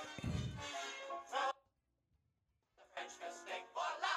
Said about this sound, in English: Sounds like steam escaping.